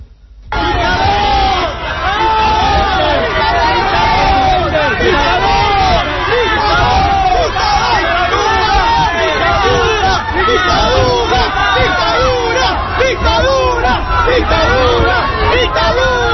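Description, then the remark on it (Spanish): A dense crowd shouts insults and jeers continuously at Hugo Chávez during his stop at the Casa del Libro bookshop, many overlapping voices yelling loudly, with occasional whoops and bellows rising above the steady roar of babble. “Chávez, es verdad, ha escuchado de todo, pero más gritos e insultos que vítores y palmas”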